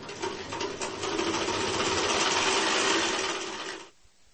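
A sewing machine runs steadily for about four seconds, a dense rapid mechanical whir with fine clicking, before stopping abruptly. No voices are heard.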